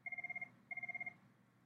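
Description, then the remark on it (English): A telephone rings in two rapid trilling bursts separated by a short pause, each burst made of quick repeated electronic pulses, clear over a low background hum. “Hang on, I got to get the phone.”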